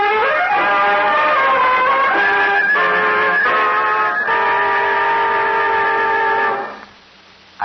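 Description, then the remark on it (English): A loud, sustained train whistle blares as a chord of steady tones for about six seconds over the rumble of an eastbound special passing the local train at Centerville Junction, then cuts off abruptly, leaving a faint hush. “Some guy jumped in from an eastbound special just as it was passing the local.”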